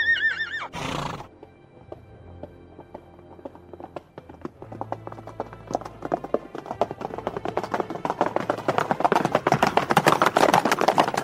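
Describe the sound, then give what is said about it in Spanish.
A horse whinnies sharply at the start, then hooves clip-clop in a quick, steady rhythm that grows louder and faster, as if the horse is galloping. No one speaks. “pero sí que puedo prestarte un caballo con un encantamiento de velocidad.”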